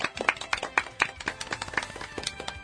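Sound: applause clapping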